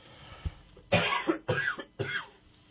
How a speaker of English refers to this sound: Wow. Cold and flu season already? A little coughing there.